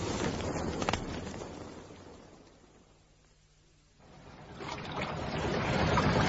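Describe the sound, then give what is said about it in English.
A boat's auxiliary engine drones low and steady at sea, mostly buried under loud rushing wind and surf that swells, dips briefly, then surges back. No one speaks. “I've got the auxiliary engine going.”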